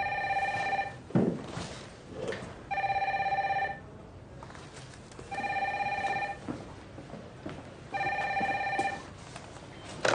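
A telephone rings in four evenly spaced bursts, each a steady electronic trill lasting about a second, with short quiet gaps between. The ringing is clear, with no talking.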